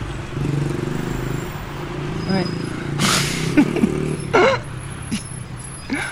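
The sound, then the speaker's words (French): A mini motorbike engine drones steadily with a buzzing hum, rising slightly as it passes by, with a brief whooshing burst and short bits of speech over the top. “Là, lui quand même, il force le regard avec sa mini moto.”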